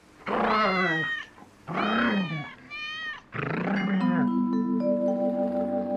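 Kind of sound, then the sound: animal, cat meowing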